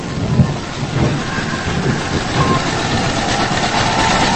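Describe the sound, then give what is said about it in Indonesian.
A sewing machine runs steadily at night with a dense, rapid mechanical chatter, fairly loud, blended into a constant rushing background noise of heavy rain hitting the building's asbestos roof, with no one speaking. “Meskipun suara musik diputar, tetap saja kalah dengan suara hujan yang cukup besar di luar sana, atau bahkan tertutup dengan suara mesin jahit.”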